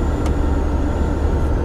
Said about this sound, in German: Die Lüftung im Bulli pfeift. Luna ist zwar top in Schuss, aber halt auch über 20 Jahre alt.